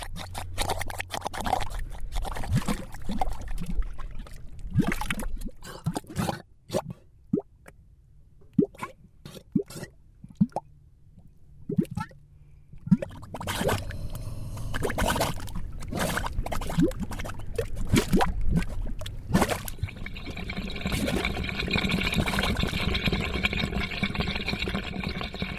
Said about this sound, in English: We recorded these mud pots near the Salton Sea in Southern California. Each pot's got its own particular personality.